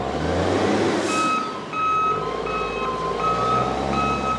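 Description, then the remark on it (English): At a port in Colombia, a big container-handling machine's reversing alarm beeps steadily and repeatedly over a deep, rumbling diesel engine, loud, with a brief hiss of air partway through, as it moves a shipping container of T-shirts from a stack to beside a ship. “At the port in Colombia, a big bulldozer of a machine grabs the container with the Planet Money shirts off a stack, whisks it over, and puts it gently on the ground next to the ship.”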